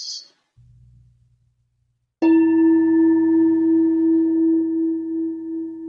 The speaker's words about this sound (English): Please ring the bell once.